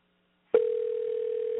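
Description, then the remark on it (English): After a brief silence, a telephone dial tone opening a crank phone call, from a Ricky Smiley clip called Pit Bull Puppies, starts abruptly and holds as one steady, fairly loud mid-pitched hum for about a second, with a faint buzz beneath it. “How about a crank phone call?”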